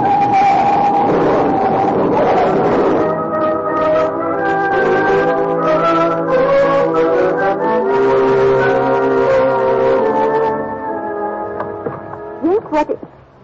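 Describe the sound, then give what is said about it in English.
A frantic car chase, a pursuing car closing in fast and crowding alongside, with blaring horn-like tones and engine roar building loudly and steadily, then abruptly breaking off into a few sharp crashing impacts as the cars collide in an auto accident near the end. “when I spot the headlights tailing us, closing in fast.”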